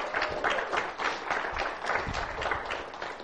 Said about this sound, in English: Cove Baptist Church, welcome all those who will be watching by internet today with a wonderful hand of applause in his house.